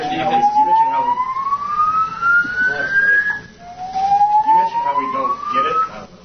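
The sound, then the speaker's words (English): A fire alarm sounds two long, loud rising whoops, each climbing steadily in pitch for about three seconds, while a murmur of voices continues underneath, interrupting Packers head coach Matt LaFleur's post-game news conference. “Packers head coach Matt LaFleur's post-game news conference interrupted by a fire alarm.”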